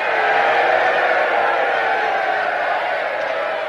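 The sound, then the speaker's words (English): A large crowd waving hands and hats outside castle gates at night cheers and shouts in a steady, dense roar that stays loud and unbroken throughout, with no single voice standing out from the mass of sound. “A crowd waves their hands and hats outside the castle gates.”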